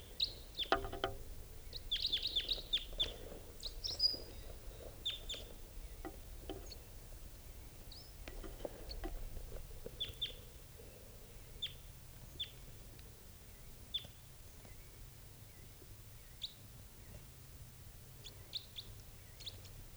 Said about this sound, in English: Sounds like a type 4 bird coming in now at 9:02 a.m. Stop. High pitch.